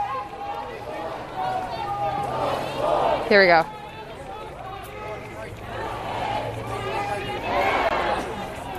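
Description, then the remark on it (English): A protest crowd chants the 'justice and peace' chant at police in riot gear, many voices rising and falling in loud repeated bursts over steady babble. A brief, sharp warbling whistle cuts through midway, and a person speaks briefly. “This is the justice and peace chant.”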